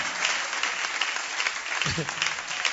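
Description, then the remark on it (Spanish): A church audience claps steadily for the Lord, producing a dense, crackling wash of applause that continues at an even level throughout, with a brief voice rising underneath near the end. “Hello, dale ese aplauso al Señor, amado hermano.”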